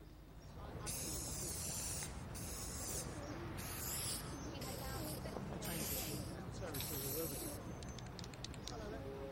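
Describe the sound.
A spray paint can hisses in about six short, close bursts separated by brief pauses, over a steady bed of street noise and faint indistinct voices.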